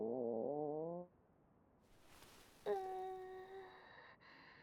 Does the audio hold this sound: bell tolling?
no